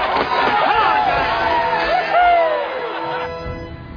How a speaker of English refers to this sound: 2 minutes into the first period, Mystery gets on the board first, and this home crowd is going crazy.